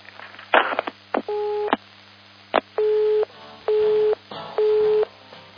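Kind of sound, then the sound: signal or alarm, telephone busy tone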